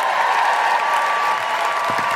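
Steady audience applause, a dense wash of many hands clapping at an even, sustained level for the whole stretch, with no voices rising above it.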